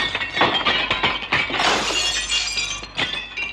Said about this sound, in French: il est sous le meuble en verre qui vient de se casser.